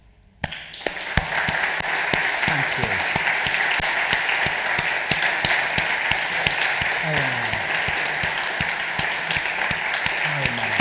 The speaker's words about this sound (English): They need God's help. And they need our encouragement. Let's applaud them today.